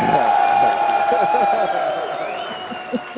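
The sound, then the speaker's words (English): A canned burst of crowd applause with cheering and chatter, played for two guests on a call-in broadcast, steady and fairly loud throughout, easing off slightly toward the end. “we're going to give Josie and Corey a round of applause here. So let's get that.”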